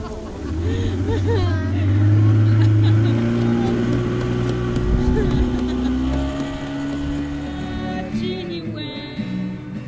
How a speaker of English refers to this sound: The survivors climb back into the boats and head across the lake.